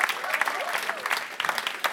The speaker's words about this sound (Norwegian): Så vi må gi han en applaus. Skal vi gjøre det?